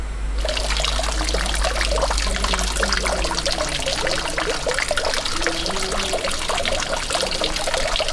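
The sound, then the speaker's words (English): Steady, dense splashing of falling water from the King Fahd Fountain, which shoots a column of water hundreds of meters into the air, its spray raining down over a promenade at night, continuous and fairly loud with a low rumble underneath, no voices. “It shoots a column of water hundreds of meters into the air, and when the wind catches it, the spray drifts over the promenade like a fine, supernatural mist.”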